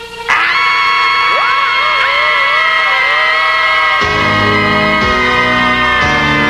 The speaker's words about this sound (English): Wait a minute! I forget. What are we screaming for again?